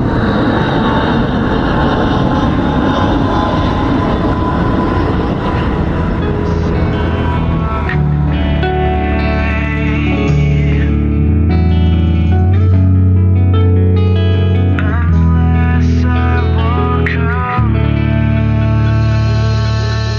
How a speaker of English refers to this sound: So I'll just watch this British Airways Airbus come in,